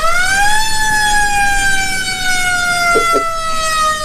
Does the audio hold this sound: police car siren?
yes